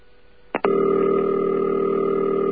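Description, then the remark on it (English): A couple of quick clicks, then a steady, buzzy telephone ring tone comes over the line on a call to Southern Bell directory assistance in Georgia, holding continuously at an even, fairly loud level, with no voices. “I don't hear rings like that.”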